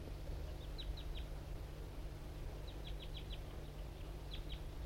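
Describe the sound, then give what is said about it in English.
A male wild bird calls from up in an oak tree nearby, responding, in short, high, sharp notes, coming in quick bursts of three to five, then pausing, over a low, steady background hum. “And the wild bird is still around up in an oak tree right nearby here.”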